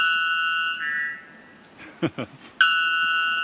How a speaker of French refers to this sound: Oui, c'est pas très beau. Ça ressemble à un larcène un peu presque. On l'appelle l'oiseau cloche, bell bird en anglais. Ah oui. Parce que ça ressemble à une cloche.